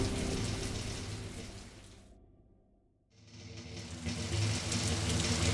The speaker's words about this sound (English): When we left the Commercia, rain was beginning to fall